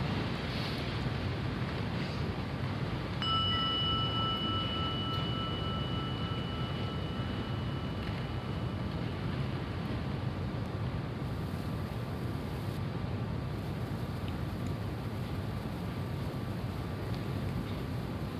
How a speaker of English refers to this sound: Just close your eyes for a moment and just let the sound of the gong be an invitation right back here again.